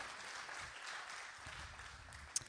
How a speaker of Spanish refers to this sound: Un aplauso para ese equipo.